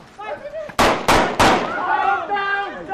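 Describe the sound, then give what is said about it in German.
Three sharp, loud bangs go off in quick succession as training grenades are thrown at a team during an exercise in a village, with raised voices calling out before and after the detonations. “Auch der nächste Knall löst Konfusion aus.”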